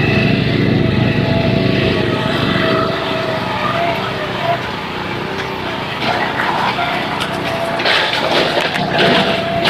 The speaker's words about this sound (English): A couple of lawn maintenance people, one of them with an aerator, and the other, I think, has just got a power roller, I'm not sure. They might both be aerators, I can't really tell.